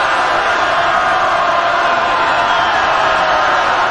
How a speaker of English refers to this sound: I don't speak Russian, but I'm told that's the crowd chanting Russia, Russia, Russia on the cue from Vladimir Putin there in Red Square.